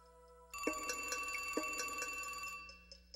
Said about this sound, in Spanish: Luego, de forma inesperada, recibió una llamada.